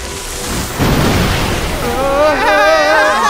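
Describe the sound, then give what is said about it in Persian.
Broad, rushing water noise swells abruptly and keeps building, loud, with a voice talking over the torrent toward the end. “که برای سمان صدای آب داره بیشتر میشه.”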